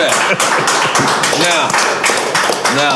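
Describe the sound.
A crowd claps steadily and loudly throughout, a dense wash of applause mixed with shouts and whoops of cheering voices rising and falling over the top.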